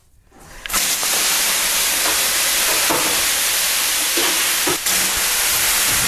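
Water thrown on hot sauna stones bursts into a loud, steady hiss of steam that holds for about five seconds, with a couple of brief flickers, and no voices.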